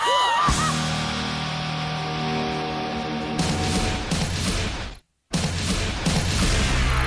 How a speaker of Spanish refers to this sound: El gallo de Radioactiva.